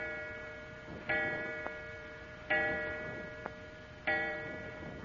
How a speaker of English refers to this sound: The clock, it struck 4 times. Is there anything odd about... Oh, I see what you mean. It must be nearly 11. That's strange.